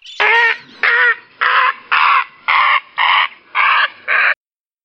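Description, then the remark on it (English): A crow caws eight times in a steady, evenly spaced series, each call loud and harsh, with brief silences between and no other sounds; a bird call of autumn. “A very different set of bird calls dominate fall.”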